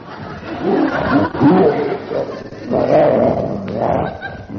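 A tiger roars twice, each deep, rumbling growl swelling loudly and then fading, with a short lull between the two bursts.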